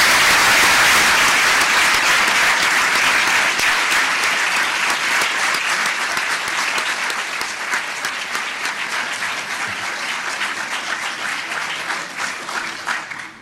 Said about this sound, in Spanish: El aplauso para ella.